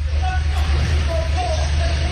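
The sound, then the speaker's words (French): During a fuel shortage, with many petrol stations running dry, panicked motorists queue at a petrol station, engines idling in a steady low rumble while agitated voices murmur and call out over the traffic noise, with no clear words. “Une pénurie aggravée par la ruée des automobilistes paniqués, des files d'attente et beaucoup d'énervement, vous l'entendez.”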